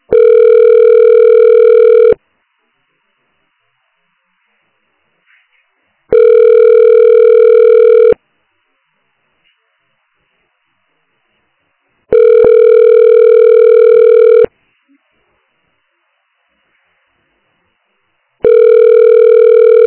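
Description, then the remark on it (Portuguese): A telephone ringback tone, heard while waiting on the line after calling a psychosocial support center, repeats steadily, each steady electronic tone lasting about two seconds with roughly four-second silences between, heard four times, clear and alone. “Você ligou para Centro de Apoio Psicossocial. Aguarde para ser atendido.”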